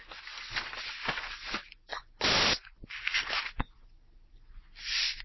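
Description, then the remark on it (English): Paper rustles and crinkles in irregular bursts, with one loud, dense crumpling surge midway and a sharp crackle after it, then a softer rustle at the end. No one speaks. “It's like we accentuate the paper rustling.”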